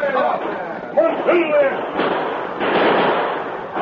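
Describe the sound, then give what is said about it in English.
Several sharp gunshots crack out amid shouting voices and commotion as a sheriff's posse and outlaws exchange fire at a farm. The bursts come irregularly and fairly loud, with a rough, noisy wash filling the gaps between them. “The sheriff's posse had seen the blaze and galloped to the farm where they were met by gunfire.”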